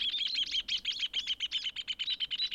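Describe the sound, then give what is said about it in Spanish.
Birds chirp and sing in a rapid, continuous series of high, bright notes, clear, with no voices present. “Y si escuchan con mucha atención, se darán cuenta que todas tienen su propia canción. El chingolo, el venteveo, el zorzal y el hornero.”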